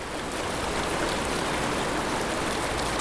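flowing river water

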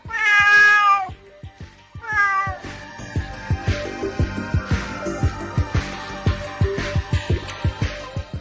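cat meowing

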